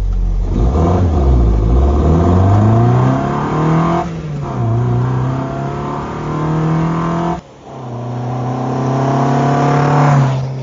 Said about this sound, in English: So yeah, it was nice to get it back out and enjoy it, and it sounds incredible. Now that it's got a proper little induction snarl to it as well, it's really breathing quite happily.